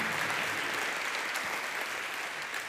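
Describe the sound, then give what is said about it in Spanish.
An audience applauds for Jesus steadily, a dense wash of many hands clapping at a constant, fairly loud level for the whole stretch, with no voices standing out. “Dale fuertes aplausos a Jesús.”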